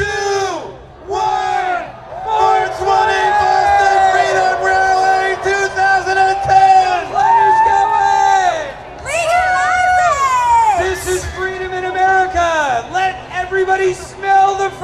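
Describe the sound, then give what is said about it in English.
A crowd of thousands at the Stingray Bandshell festival stage roars and cheers loudly and continuously as they count down to 4:20 and light up marijuana together, many voices shouting in long sustained yells that swell and rise in pitch, with no single speaker standing out. “At the Stingray Bandshell stage, activists counted down the moment and thousands lit up simultaneously, creating a huge marijuana cloud over the crowd.”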